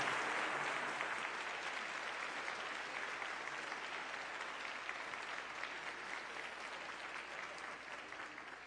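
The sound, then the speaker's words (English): A church audience at Christmas claps steadily and loudly for the whole stretch, a dense patter of many hands that eases only slightly toward the end, with no voices breaking through. “Give them a big applause.”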